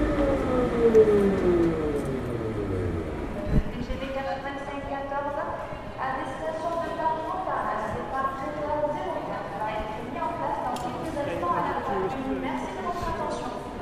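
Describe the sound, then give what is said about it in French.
Busy ambience at Matabiau train station in Toulouse, France, around 12:55 on a Monday: a descending tonal sweep at the start, then a steady reverberant wash of overlapping voices and murmur, with scattered brief tones and clatter throughout. “Il est 12h55 ce lundi 16 juin, nous sommes à la gare Matabiau de Toulouse et tout va bien, il y a quelques trains qui ont des retards.”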